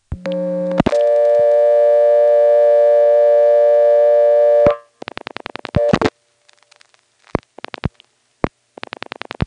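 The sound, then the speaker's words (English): A few brief tones lead into a steady, buzzy dial tone from a telephone incoming selector as it starts to cut in, holding for about four seconds, then cutting off into a series of short, sharp pulsed bursts and clicks. “This particular incoming selector actually has dial tone sound as it starts to cut in.”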